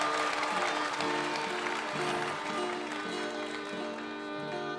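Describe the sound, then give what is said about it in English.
A crowd applauds steadily for a contestant in a contest, a dense, sustained wash of clapping with music playing faintly beneath it. “So applaud when they come in, applaud when they leave, just like this man right here.”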